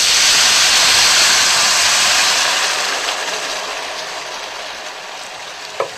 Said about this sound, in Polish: Nasza kasza już się dosyć mocno podparzyła. Wleję wodę. Około jednej szklanki wody na jedną szklankę kaszy.